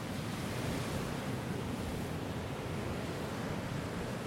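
Steady roar of wind and surf on the Baltic Sea coast of the Danish island of Bornholm on a cold, wet, windy February day, a dense, continuous rush of breaking waves with gusty low rumble and no voices.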